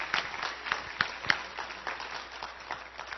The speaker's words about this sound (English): put your hands together and give King Jesus the greatest hand clap of praise that you've ever given Him in your life tonight.